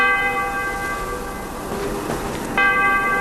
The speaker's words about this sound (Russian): Меня как ударило этим колокольным звоном.